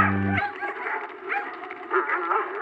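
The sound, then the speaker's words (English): A pack of dogs barks and yips excitedly, overlapping high calls in a steady, busy chorus that runs throughout, with no talking over it. “I'll just put some of my cheese outside my store and the dogs will come a-running.”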